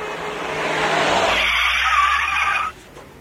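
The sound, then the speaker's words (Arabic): A bus drives along with a steady rush of engine and road noise, loud, holding for a few seconds before cutting off abruptly. No one speaks. “لنستمع الآن إلى نموذج لهذا الفضولي. باص.”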